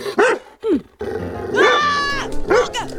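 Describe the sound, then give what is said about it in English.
A dog growls and snarls in several loud, rough bursts, rising and falling in pitch, with short yelping barks between them, while biting a person's arm. “I see, it's empty because the dog is biting my arm.”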